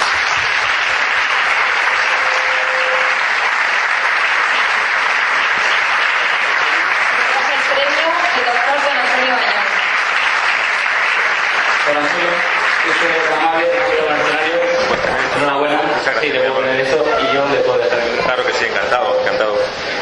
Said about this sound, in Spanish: Un fuerte aplauso.